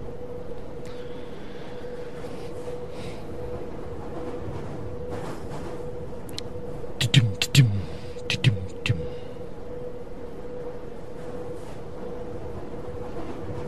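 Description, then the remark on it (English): A steady low rumble of a train running, with a constant motor-like hum and a short burst of rattling clunks partway through, without speech. “The train sounds are really nice, I like them.”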